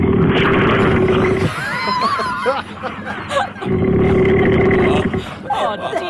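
A man sleeping by a river snores loudly, with two long, rough, rumbling snores separated by a stretch of wheezy, fluttering breath and sputtering sounds in between.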